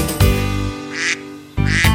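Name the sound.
duckling quacking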